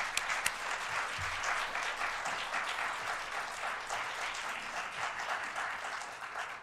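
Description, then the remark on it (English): A crowd applauds steadily, many hands clapping in a dense, even wash of sound that holds at a consistent level for several seconds, with no one speaking over it. “First of all, if you appreciated that, why don't you give him a round of applause?”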